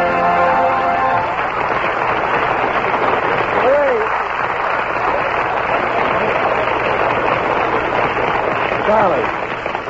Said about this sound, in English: Cease the applause. It wasn't that good.